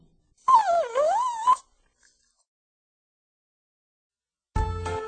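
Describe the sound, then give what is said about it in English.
A dog whines once, a high, wavering cry that rises and dips for about a second, fairly loud, followed by silence before another sound starts at the very end. “Go away, you bad old dog. Go away from me.”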